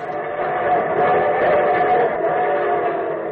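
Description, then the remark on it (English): A steam train whistle blows one long, steady, loud chord that holds for a few seconds, opening the radio show The Railroad Hour, with no talking over it. “And from Hollywood, here comes the star-studded show train.”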